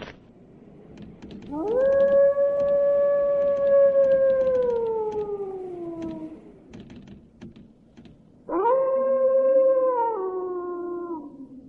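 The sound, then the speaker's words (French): A wolf howls twice: a long, steady cry that slowly slides downward, then a shorter, sharper howl. Both are loud, over a faint crackling, clicking background. “Je vais à la chasse au caribou, pas au loup.”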